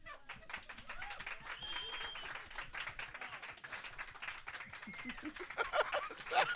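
An audience claps steadily for several seconds after being asked to applaud if they fart. A dense crackle of many hands with a few voices and whoops mixed in grows a little louder toward the end.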